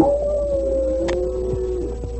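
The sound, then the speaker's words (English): A man's voice imitates a coyote's wailing howl: one long, steady, mournful tone held for about two seconds, sliding slightly downward, loud, with no talking. “As they went down the path, the Indian suddenly gave as a signal the wailing howl of a coyote.”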